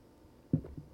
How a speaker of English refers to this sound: I need another sip of coffee because my throat is asking me to take one.